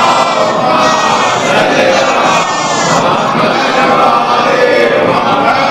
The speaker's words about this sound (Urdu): اور وہ کہاں نہیں ہے، صلوات پڑھ لیں محمد و آل محمد پر.